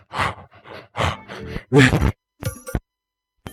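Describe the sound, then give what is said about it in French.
Heavy panting breaths after a gym workout come in a quick, uneven series of loud huffs, some with a voiced groan or gasp, followed by a couple of sharp shorter exhales and a pause. “Et alors, j'étais complètement essoufflé.”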